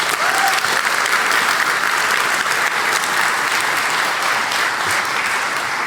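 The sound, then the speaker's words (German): Sustained applause from a sizable audience, a dense, steady wash of clapping hands that fills the whole stretch at full volume without pause. “Könnt ihr nochmal Applaus”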